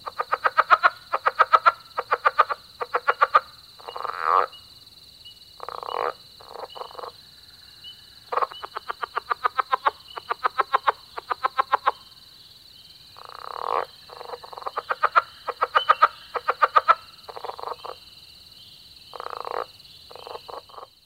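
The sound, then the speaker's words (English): A frog calls in repeated bursts of distinct chuck notes, slow enough to count, with short pauses between series. A steady high insect-like hum runs underneath, and no one speaks. “During cold spells, the chucks are delivered more slowly, just slow enough to count.”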